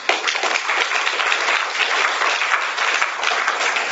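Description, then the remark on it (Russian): An audience at an Alcoholics Anonymous meeting claps steadily, many hands blending into a dense, even wash of applause that holds at a fairly loud level for a few seconds without fading. “I should be applauding you.”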